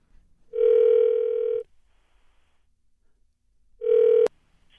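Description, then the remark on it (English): Two steady electronic telephone tones sound over the line, a long one and then a shorter one cut off by a click as the call connects. Nobody speaks. “Okay, let's dial her up.”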